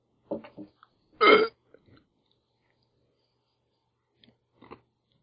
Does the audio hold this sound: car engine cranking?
no